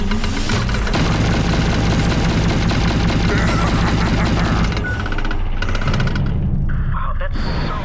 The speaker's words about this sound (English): Is that loud for anyone else? Yeah, they're massive guns. Yeah, it's pretty loud.